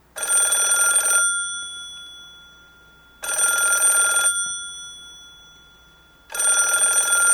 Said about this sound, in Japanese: やっぱり電話が鳴っている。どこだろう。熊のおじいさんはむっくりと起き上がり、電話が鳴っている方へ歩いていきました。